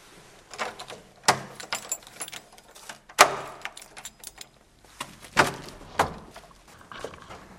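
Keys jangle and scrape in a lock, followed by sharp metallic clicks and a heavy thunk as a door is unlocked and pushed open, then shuffling footsteps moving inside, close and fairly loud.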